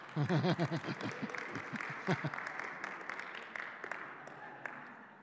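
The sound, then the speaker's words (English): An audience applauds a couple's 16th wedding anniversary in a dense, steady wash of clapping that lasts several seconds. A voice is heard over it at the start, then the clapping carries on alone. “Please look at my wife when you applaud because she puts up with me for 16 years.”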